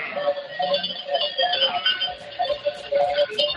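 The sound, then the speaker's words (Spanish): A flock of sheep bleating in the dehesa Trebeña, many overlapping wavering calls forming a steady, fairly loud chorus with no talk over it. “¿qué ganado es ese? Cuéntanos, ¿qué tienes delante? Son ovejas.”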